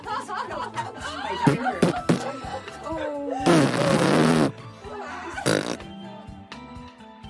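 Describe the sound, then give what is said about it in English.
Wet, sputtering raspberry sounds blown with the mouth and cheeks, imitating juicy farts as the ending of a cheer, come in a string of bursts, including one long buzzing blast and a shorter one, with some laughter and voices mixed in. “the perfect ending to our cheer would be to make a bunch of obscenely juicy fart noises.”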